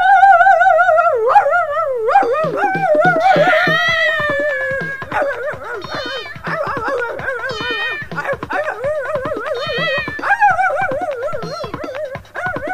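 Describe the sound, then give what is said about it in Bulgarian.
A dog, Butch, barks and yelps as he leaps out of his doghouse and furiously attacks a kitten, in a rapid, unbroken stream of high, wavering cries and whines, loud throughout with no talking. “Изведнъж Бъч подуши миризмата на котка, изскочи от колипката си и бясно се нахвърли върху котенцето.”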